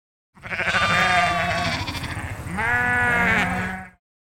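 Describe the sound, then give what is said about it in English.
Two loud sheep bleats in a row from sheep on a farm with four sheep, each a long wavering baa, with a brief dip between them and silence on either side. “How many sheep do you have? I have 4 sheep.”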